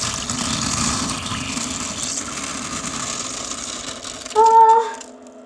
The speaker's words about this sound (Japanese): よし。じゃあ、おしっこします。あ、入んないかな。よし。